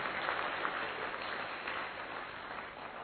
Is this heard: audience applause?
yes